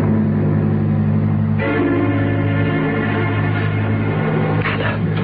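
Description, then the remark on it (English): A train whistle, blown by the engineer for New York, sounds one long, loud, unbroken chord of steady tones, growing fuller and brighter partway through and holding to the end without any talking. “Blow your train whistle for New York.”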